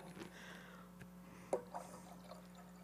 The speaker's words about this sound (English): Now, what I'd like you to do is the water that came out of this container, I want you to put that back in there. And the water that came out of that one, put back in there without mixing it up.